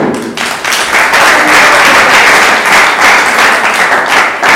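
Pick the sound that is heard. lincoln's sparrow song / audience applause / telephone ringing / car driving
audience applause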